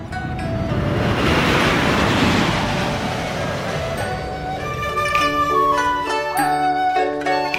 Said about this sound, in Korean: 네, 여기 나오면 비행기 소리가 한결같은 것 같아요. 네, 비행기가 네 같은 게 계속 움직이는 것 같아요. 어느 비행기일까요? 네. 보잉.